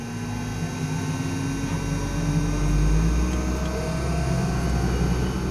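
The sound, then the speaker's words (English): The engine of a single-engine Caravan commuter passenger plane drones steadily and loudly at Brackett Field Airport in Pomona, with about a half dozen passengers aboard: a continuous propeller roar with a hum that slowly rises in pitch; no one speaks. “we climbed aboard one of the company's single-engine caravan passenger planes”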